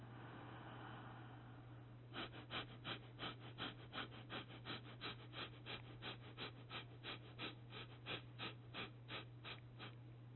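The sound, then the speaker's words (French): Quick, forceful breaths of rapid abdominal breathing with the head tilted back pulse in a steady rhythm, around two per second, moderately loud, over a constant low hum, after a couple of seconds of quieter breathing. “Après un ou deux cycles respiratoires, sur le rythme habituel, vous pourrez faire la respiration abdominale rapide avec la tête penchée en arrière.”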